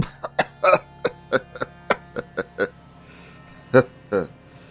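A man's weak, hoarse cough, like an old man's, comes in a rapid string of short rasping bursts, then pauses before two final rougher coughs, unaccompanied by speech.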